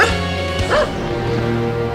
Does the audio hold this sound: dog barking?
yes